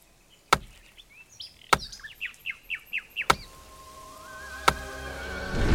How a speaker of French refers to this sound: Ah mais si, je sais couper du bois, regardez. Non, tu t'y prends mal. On en a pour la journée, je te montre. Il faut trouver le rythme.